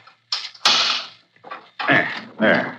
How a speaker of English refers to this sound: This is an intricate lock, Waldemar. It takes careful handling of the key.